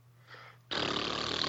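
After a brief quiet pause, someone abruptly blows a loud, sustained raspberry, a buzzy, sputtering lip vibration that continues steadily with no talking.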